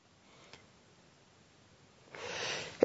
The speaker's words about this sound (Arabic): دي أحسن عطسة عطستها في حياتي. الناس على سائر البلاد ممن سيشاهد الحلقة هيقول يرحمك الله، اللهم تقبل.